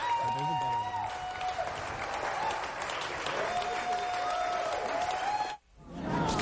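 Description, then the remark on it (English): A crowd cheers and applauds on a Sunday show on the radio station WONY 90.9 FM, a dense, steady roar with scattered whistles and voices, sustained for several seconds before cutting off abruptly, then swelling back briefly. “Crowd's here.”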